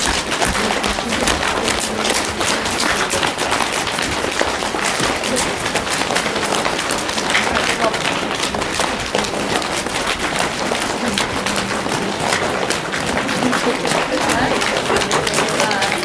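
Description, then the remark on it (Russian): Rapid, continuous patting of hands on legs, a dense run of soft slaps with no pauses, steady in loudness for the whole stretch. “Похлопывание. Это когда вы берете и начинаете хлопать по своим ножам.”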